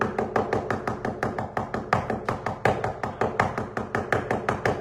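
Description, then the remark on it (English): Rapid, insistent knocking on a door: a steady, unbroken run of fairly loud raps, about five per second, continuing for the whole stretch with no voices. “That's the way they used to knock when I forget to turn in my timesheet.”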